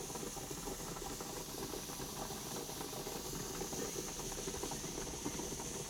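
A facial steamer hisses steadily and continuously, a constant breathy rush of warm steam onto a person's face, with faint bubbling and rattling underneath, and no talking.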